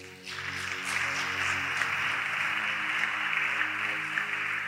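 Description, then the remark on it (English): A crowd breaks into sustained applause for Jesus, many hands clapping in a dense, steady wash that swells quickly after a brief quiet start and holds at an even, fairly loud level throughout. “Clap for Jesus.”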